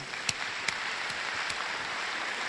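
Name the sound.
audience applause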